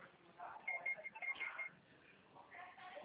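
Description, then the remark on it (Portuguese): A telephone rings at a reception desk with a series of quick, high electronic tone pulses, over a muffled, band-limited background of murmuring voices. “Moça, eu não vou poder falar agora que eu estou na recepção aqui, o telefone está tocando, tá?”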